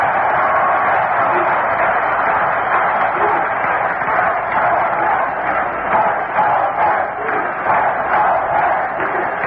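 A large baseball stadium crowd roars steadily with the bases loaded as Wayne Garrett comes to bat against pitcher Grimsley, a dense, sustained wall of cheering voices that swells slightly at moments without ever dropping away.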